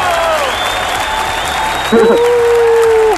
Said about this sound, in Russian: У нас здесь появилось 150 тысяч хлопальщиков.